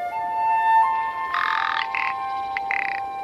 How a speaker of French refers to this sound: Le Lagopès alpin, c'est une espèce de poule, de la taille d'un pigeon, qui, première adaptation, change de couleur. En même temps qu'il change les plumes, tous les oiseaux mûrs changent leurs plumes, eh bien les plumes de l'hiver sont blanches.